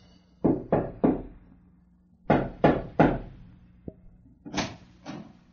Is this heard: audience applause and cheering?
no